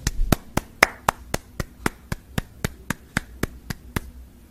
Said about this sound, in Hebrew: תמחו כפיים, מה זה?